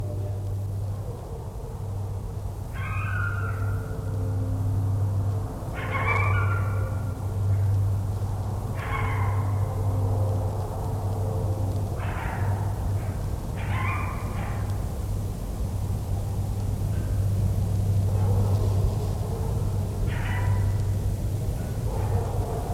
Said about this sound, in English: coyote howling in the woods at Museum Northern Arizona.